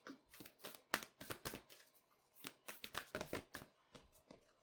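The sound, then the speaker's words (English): A deck of cards is shuffled for a card reading, a rapid series of crisp riffling bursts and soft slaps with brief pauses between, fairly quiet and uneven in rhythm, with no talking. “That was bad shuffling.”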